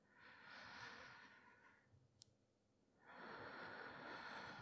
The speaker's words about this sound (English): And it just feels really good. Really nice to kind of peacefully calm myself just by breathing in and out.